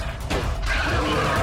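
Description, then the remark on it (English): A bus's tires skid loudly as it swerves around a red truck, a continuous screeching rush over heavy low engine rumble, sustained throughout with no voices. “swerves around a red truck.”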